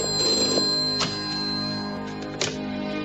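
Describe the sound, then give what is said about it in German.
A telephone rings with a steady, bright electronic tone, holding for a few seconds with a couple of sharp clicks or bursts partway through, alone without any talking. “Ich gehe schon ran”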